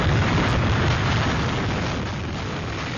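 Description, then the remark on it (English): Loud, roaring hurricane wind slamming St. Martin in the Caribbean, from the strongest Atlantic hurricane on record, pounds steadily for the whole stretch, a dense wall of low rumble and hiss that swells slightly at first and then eases a little, with no voices. “Just listen to the sound as it slams St. Martin.”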